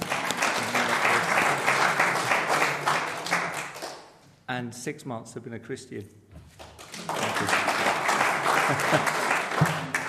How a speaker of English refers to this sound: That's 7 months now, and that's 7 months drug free. I normally get a clap for that.